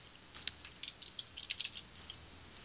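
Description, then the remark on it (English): Soft, irregular clicking of keys on a computer keyboard as a person types a note, a quick scattered run of taps heard faintly with no one speaking. “Okay, what did you pause for? You were typing, and I thought you were saying something.”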